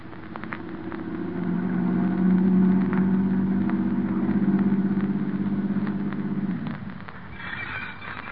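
A car engine rumbles steadily, a low throbbing drone that swells slightly and holds for several seconds before dropping away, leaving faint higher rustling noises at the end.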